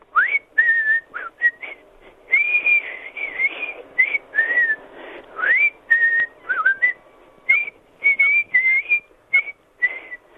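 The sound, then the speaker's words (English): A man in the West Midlands whistles a lively tune with his lips, a steady run of bright, sliding notes and short phrases with brief pauses, clear with no talking. “We love talking to you, as you know, but we also love listening to your whistling lips. So when you're ready, give us a blow.”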